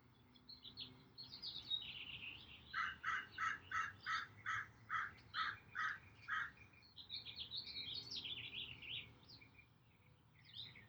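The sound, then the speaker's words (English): Birds chirp and warble throughout, with a clear run of about nine evenly spaced, repeated calls in the middle, set against a soft, steady outdoor background. No one speaks. “The birds are ushering you into stillness, into safety, into surrender.”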